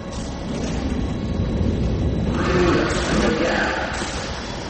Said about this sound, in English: There's a train.